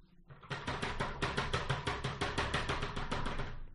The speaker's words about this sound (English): A rattling. Yeah, kind of. Yeah. Shaking, rattling.